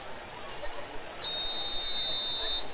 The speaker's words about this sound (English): And there's the official's whistle.